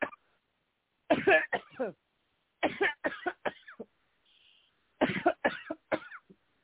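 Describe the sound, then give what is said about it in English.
Three clusters of harsh coughs, each burst made of several quick hacks, separated by short quiet gaps where faint breaths are drawn in, as a person takes deep breaths and coughs during a prayer. “Deep breath and cough, deep breath and cough, deep breath and cough.”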